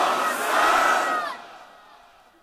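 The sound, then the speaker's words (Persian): A large crowd with hands raised shouts the chant "Ya Hasan" in unison, a loud, dense roar of many voices lasting about a second before trailing off into a fading wash. “نه این بلنده بود، دست تو بیار بالا محکم، همه دست بالا بلند بگو یا حسن.”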